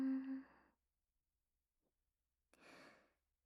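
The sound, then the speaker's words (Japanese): Two heavy, audible breaths separated by a silent pause: first a voiced, sighing exhale with a low hum, then a breathy, airy gasp about two seconds later. No talking. “はぁはぁって息荒くしちゃって、女の子みたいな可愛い高い声。”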